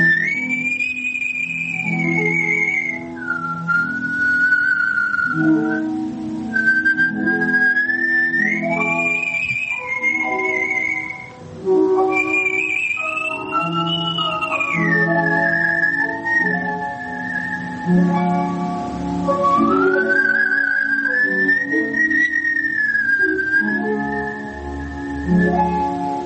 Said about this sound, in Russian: Художественный свист и аккомпанемент